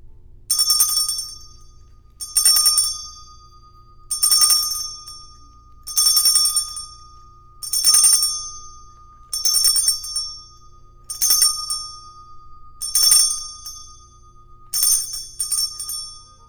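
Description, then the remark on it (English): A bright, ringing chime struck nine times in a steady rhythm, roughly every two seconds, loud, each strike ringing briefly before the next, with no talking. “you are up with the chime”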